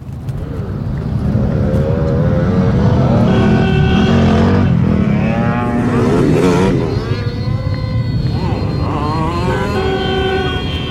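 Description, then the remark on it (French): A car engine revs loudly, its pitch climbing and falling several times over a constant low, rough rumble that never lets up. “Qu'est-ce que vous lui faites à votre voiture ?”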